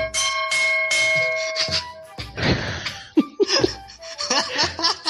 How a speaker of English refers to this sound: Dinner's ready. The gong. It's from the Philippines.